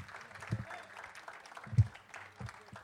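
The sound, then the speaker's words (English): An audience at a festival applauds with steady, dense clapping that holds at an even level throughout, with a couple of low thumps and faint murmuring mixed underneath. “I think a man playing at a festival for 34 years deserves a round of applause.”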